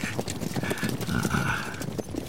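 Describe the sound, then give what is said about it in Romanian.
The hooves of two white horses clip-clop in a steady, uneven patter that grows a little louder as they draw nearer from afar, with a faint creak of the gilded cart they pull and no voices. “Da, aud ropot de cai apropiindu-se.”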